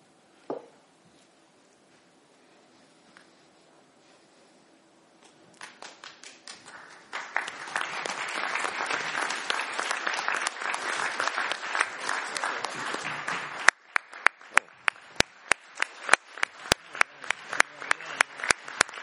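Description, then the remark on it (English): After a near-silent start, scattered claps swell into loud, dense audience applause at a meeting, which then thins out into sharp, separate claps toward the end. “I was going to say a few words, but I think that testimony from the crowd is actually far more important and far more more effective than anything I can say.”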